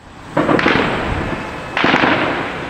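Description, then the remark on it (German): Two heavy gunshots ring out about a second and a half apart, each a sharp loud crack followed by a long, rumbling echo that lingers. No voices are heard. Shots fired by Israeli soldiers on a street in Jenin, northern occupied West Bank, where cars drive and people go shopping. “Auf der Straße fahren Autos, Menschen gehen zum Einkaufen und immer wieder fallen heftige Schüsse.”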